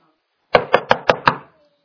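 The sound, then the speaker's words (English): Five quick, evenly spaced knocks on a door, sharp and fairly loud with a low wooden thump to each, rapping out in a steady rhythm before stopping, with no voices. “He said, I knock. You know why he's knocking?”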